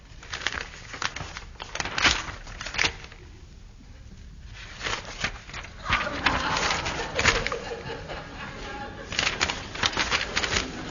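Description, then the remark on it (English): Bird calls sound, scratchy chirps and cooing in irregular bursts, mixed with fluttering, clattering noises and a brief quieter stretch midway. “Nothing was heard but the song of a bird.”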